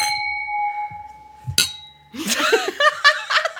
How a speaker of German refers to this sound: Die hat mit dem Stein geprostet übrigens.